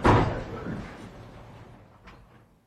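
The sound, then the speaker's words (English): A heavy courtroom door shuts with a solid, fairly loud thud that rings out and fades, followed by a faint latch click a couple of seconds later, as the handcuffed Chauvin is taken away to the back after the court adjourns. “Exchanges a brief word with his lawyer, and then he's taken away to the back, and the door is closed.”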